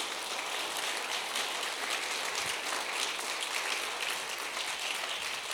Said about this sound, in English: Just give God a hand clap of praise right now.